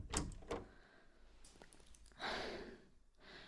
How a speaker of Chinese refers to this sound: 吓死我了！我还以为是哪个小偷这么大胆呢，在这开半天钥匙。